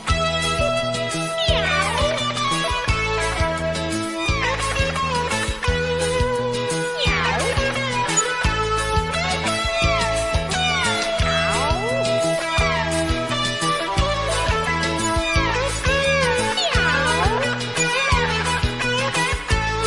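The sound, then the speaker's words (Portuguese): Repeated cat meows ring out over loud, continuous music, recurring every couple of seconds with rising and falling pitch throughout. “Gatinha, vem bichinha preguiçosa. Te prometo uma rosa. Se você vier pra mim, mia, mia.”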